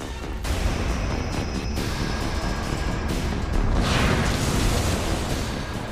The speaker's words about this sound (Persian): همونطور که ما شاهده میکنید پشت سر من انفجارهای شدیدی داره اتفاق میافته. میزان خسارتی که این هیولا بر جای گذاشته قابل اندازه گیری نیست.